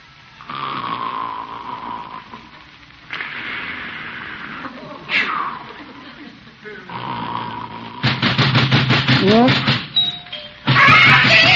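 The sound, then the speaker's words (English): A doorbell rings over and over, its tone buzzing in long repeated bursts that grow louder and more insistent toward the end, with muffled voices mixed in. “Why is he ringing the doorbell?”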